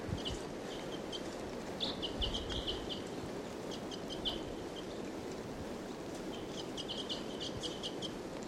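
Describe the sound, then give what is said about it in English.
A wild female bird calls in bursts of quick, high-pitched chirps, pausing between clusters, over a steady low rushing background noise; nobody speaks. “Wild bird. 745 on the side, but they're loud.”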